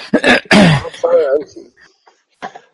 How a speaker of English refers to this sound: do we need to pray for your cough? No.